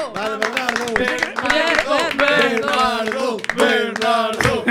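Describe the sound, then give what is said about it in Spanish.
An audience applauds a contest's second runner-up amid loud, overlapping cheering and shouting voices, a steady, dense burst of crowd noise lasting several seconds without pause. “Era que ao final dámoslle o segundo suplente, por favor, forte aplauso se nos estás coitando.”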